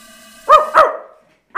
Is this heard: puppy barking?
yes